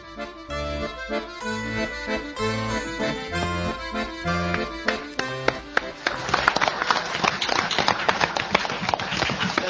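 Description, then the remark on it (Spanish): Music plays for several seconds, then an audience breaks into applause for the narrator of a short story: dense, crackling clapping from many hands, fairly loud and steady until the end. “A él estábamos aplaudiendo, a él distinguió Carlos con su elección.”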